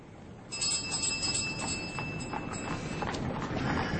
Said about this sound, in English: Damn it, Holmes. I've rung the bell twice. There's no one at home.